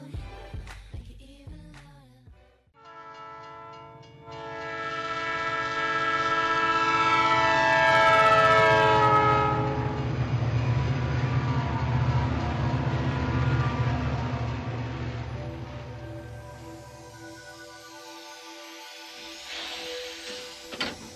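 A train rumbles past while its horn blares in one long, loud, sustained chord that swells for several seconds and then fades as the rumble trails off. Nobody speaks.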